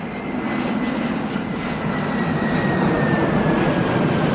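jet airliner taking off

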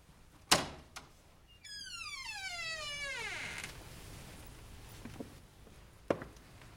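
door being opened

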